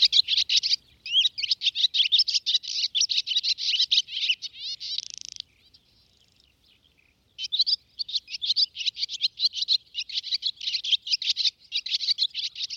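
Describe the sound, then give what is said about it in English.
A barn swallow's rapid, chattering twitter runs almost nonstop, bright, breaking off briefly partway through before the busy warbling song resumes. “The arrival of the swallow from Africa for another season in the north makes it official.”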